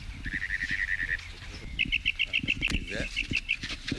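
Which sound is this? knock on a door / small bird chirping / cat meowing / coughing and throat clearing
small bird chirping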